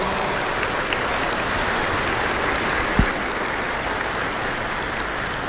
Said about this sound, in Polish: Przybyło nas, jest nas trochę więcej w świątyni niż na początku i obiecałem, że także gorącymi oklaskami przywitamy tych, którzy przyjdą, a zatem przyszli, a my ich gorąco witamy gorącymi oklaskami. Tak słabo?